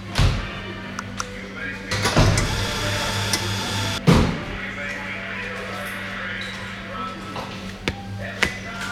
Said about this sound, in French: À chaque table, deux chaises, mais juste une personne et son ordinateur. Ça pianote de tous les côtés. Ils sont là, les internautes.